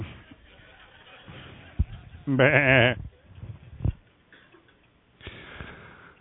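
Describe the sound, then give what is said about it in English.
A loud, wavering sheep bleat cuts in near the middle, followed later by a fainter second bleat, with low background noise and a few soft thumps in between. “Where are they get the cotton from the cotton sheep?”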